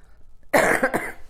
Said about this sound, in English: Great. I'm going to cough.